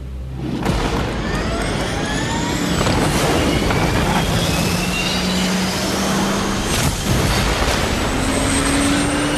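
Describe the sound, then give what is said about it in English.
A real jet plane roars loudly and steadily throughout, its engine whine sliding up and down in pitch as it passes, with no one speaking. “He is definitely fucking flying that real plane, though.”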